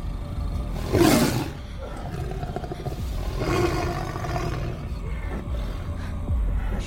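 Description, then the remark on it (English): A caged tiger lets out a loud roar, followed a few seconds later by a second, rougher growling roar, with a low rumbling background throughout and no talking. “Each cage contains a tiger.”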